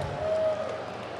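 A short burst of audience applause at a craft beer seminar, a dense, steady wash of many hands clapping at moderate loudness with no clear speech over it.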